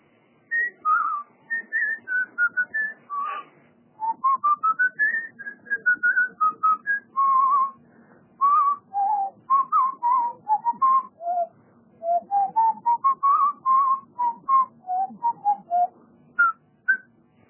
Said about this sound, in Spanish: Bueno, muy bien, estás pronto, vamos a escuchar los silbidos de vuelta.